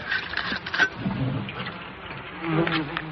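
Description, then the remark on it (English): A dense, continuous buzzing of many wasps swarming together as they are smoked out of their old nest, a steady droning hum with fluctuating pitch and occasional sharper whines as individual insects pass, moderately loud with no talking. “Smoking out the resident wasps.”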